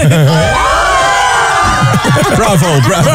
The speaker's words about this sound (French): Ça va applaudir.